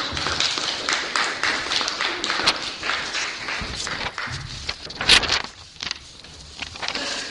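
An audience claps together in steady, dense applause that stays loud for about six seconds, then thins out and fades. Some murmuring voices can be heard beneath the clapping.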